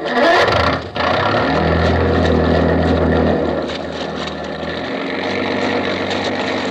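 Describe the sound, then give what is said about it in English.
A motorboat engine drones steadily throughout, with a low humming tone under a broad rushing wash. The level stays fairly even, easing slightly toward the end, and no voices are heard. “You wish to hear other motorboat, maybe, eh?”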